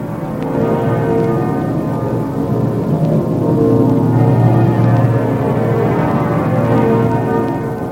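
Several church bells ring together in a loud, continuous peal, their overlapping tones blending into a dense, sustained wash with no pauses and no voices.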